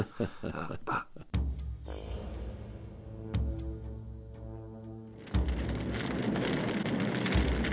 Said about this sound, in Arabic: ما هذا؟ ومن أين جاءت هذه النيران؟ يا إلهي، لا ريب أن النار ستأتي على الكتب.